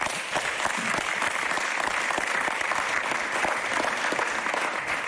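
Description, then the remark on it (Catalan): Sustained audience applause in tribute to Johan Cruyff at an FC Barcelona candidacy event, a dense, steady clatter of many hands clapping at an even loudness for several seconds, with no voices standing out. “Per favor, un aplaudiment.”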